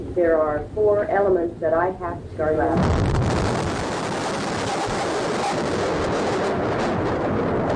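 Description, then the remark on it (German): A person speaks briefly before a sudden, powerful bomb explosion at the Alfred Murrah Building in Oklahoma City, USA, at 9:02 in the morning cuts in, followed by several seconds of loud, sustained roaring rumble and debris noise. “Die Explosion zerreißt die morgendliche Ruhe am Alfred Murrah Building.”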